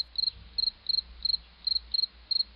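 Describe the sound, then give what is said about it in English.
A cricket chirps in a steady rhythm, seven short trilled pulses evenly spaced over a few seconds, fairly clear against a faint low background hum. “Crickets.”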